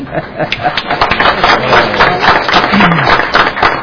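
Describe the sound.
An audience at a meeting breaks into steady applause for a member who has just turned 40, a dense crackle of many hands clapping at once that stays loud for the whole few seconds, with some crowd voices mixed in.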